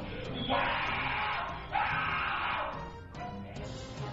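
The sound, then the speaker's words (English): A teenage student screams in anguish while tied down and given electric shocks at the Judge Rotenberg Center, two long, loud, strained cries followed by a shorter ragged yell, with harsh breathy distortion throughout. “Screams of pain from a student at the Judge Rotenberg Center as he's tied down and shocked for hours.”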